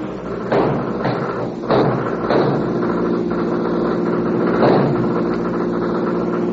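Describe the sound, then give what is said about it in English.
A car engine roars steadily while tires screech and skid in several sharp bursts as a convicts' car takes a turn too sharply, 18 miles from Petaluma; the loudest bursts come near the start and again later, with no one speaking. “Then, when they are 18 miles away from Petaluma, the convict's car takes a turn too sharply. The car skids.”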